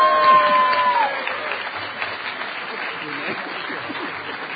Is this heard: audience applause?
yes